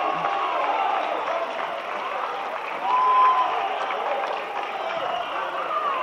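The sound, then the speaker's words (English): A basketball crowd cheers and applauds late in a six-point game, a steady, dense roar that barely changes for six seconds, swelling slightly midway as a brief thin whistle-like tone cuts through. “Report crowd, something to cheer for.”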